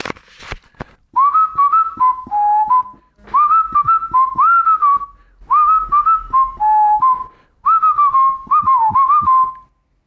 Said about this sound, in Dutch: fluit hem erop.